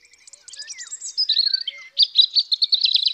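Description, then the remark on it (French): A European robin in a hedge sings a quick run of high, clear warbling notes and thin trills, unaccompanied, for about three seconds. “Tiens, un oiseau, bonjour monsieur l'oiseau.”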